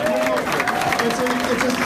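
An audience claps steadily, a dense wash of many hands at a constant level with crowd murmur mixed in, filling the whole short stretch.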